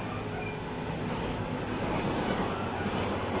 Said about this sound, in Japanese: 皆様、本日は JR 北海道をご利用いただきまして誠にありがとうございます。この列車は札幌行きスーパーホークと21号でございます。